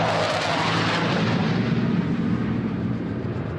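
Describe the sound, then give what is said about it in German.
A loud, continuous roar of two Polish F-16 fighter jets sweeping overhead across the Vistula river, the sharp high-pitched hiss fading after the first second as the thunderous rumble lingers and slowly recedes. No voices. “Kurz darauf donnern 2 polnische F-16 Kampfjets über die Weichsel.”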